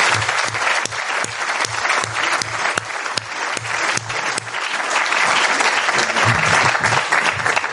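An audience applauds steadily for several seconds, a dense wash of clapping with a few sharp, regular claps standing out, swelling slightly louder toward the end. No one speaks.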